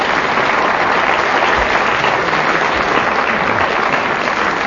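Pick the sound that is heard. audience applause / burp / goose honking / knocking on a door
audience applause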